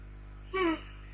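A short yawn: one brief voiced breath that slides downward in pitch and fades quickly, with no talking around it.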